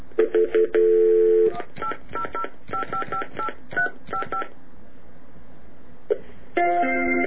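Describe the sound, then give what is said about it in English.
A rapid series of telephone keypad dialing tones as someone dials a phone call to old friends: short steady beeps in quick irregular succession, followed by a pause and a couple more tones near the end, clear. “I want to get some old friends on the phone.”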